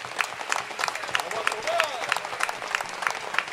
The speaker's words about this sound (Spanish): toda esa gente que nos echa una mano, que nunca se ve pero siempre están, pues a todos ellos un fuerte aplauso de los gambusinos para todos ellos.